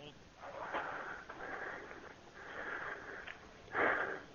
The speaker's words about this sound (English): Why the fuck are you breathing like that, sir? Are you masturbating?